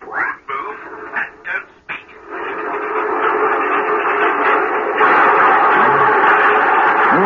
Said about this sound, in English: Sounds all wrong. Yeah. There are two sets of diddly bombs. Oh, it's impossible. A train can't be going fast and slow at the same time.